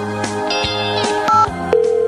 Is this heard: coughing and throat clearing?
no